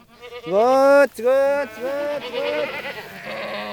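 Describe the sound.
Goats bleat loudly, several wavering cries following one after another, while a goat herder calls out among the hundreds of goats he tends, grazing the grasslands of Fort Ord National Monument.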